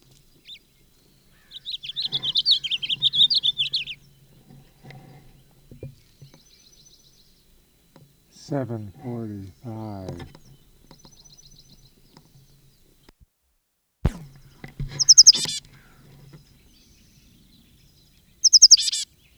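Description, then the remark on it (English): A songbird sings outdoors from a conspicuous perch at the west end of a bench south of a school, in short, separated phrases: a high buzzy trill, then lower rapid stuttering notes, and sharp high chips, with quiet pauses between bursts. “Bird on conspicuous perch.”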